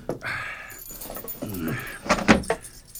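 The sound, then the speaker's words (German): A bunch of keys, including the key to the security lock on a hatch leading to a wine cellar, jangles with soft shuffling at first and then a few sharp, bright metallic jingles near the end as the keys change hands. “Warte, ich gebe dir den Schlüssel für das Sicherheitsschloss, mit dem die Luke verriegelt ist.”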